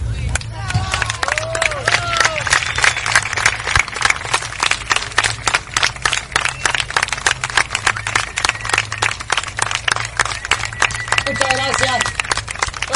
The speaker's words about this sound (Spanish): De la compañía Chimichurri, que el último aplauso sea para todos nosotros.